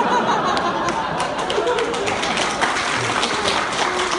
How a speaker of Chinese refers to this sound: 别鼓掌了，别鼓掌了。